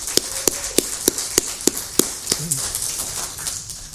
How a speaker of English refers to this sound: Could we all please just give a round of applause if we may?